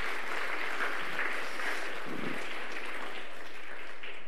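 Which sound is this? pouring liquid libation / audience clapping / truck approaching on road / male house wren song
audience clapping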